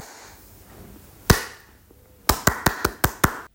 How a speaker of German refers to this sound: wir haben Klatschen aufgenommen